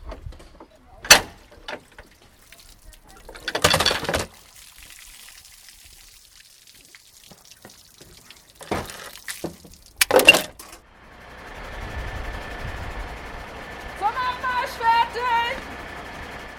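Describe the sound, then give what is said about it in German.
Sounds of a youth fire brigade drill in Bramfeld, fighting a burning car across a yard with a C hose from a distributor: sharp metallic clanks and door-like bangs, then a steady rushing hiss of water spraying, with a faint whistling tone and chirping warbles on top. “bin 12 Jahre alt und gehe jeden Montag zur Jugendfeuerwehr, weil es mir Spaß macht, mit Freunden zu lernen, wie man in Bränden umgeht und also wie man Menschen rettet oder wie man löscht”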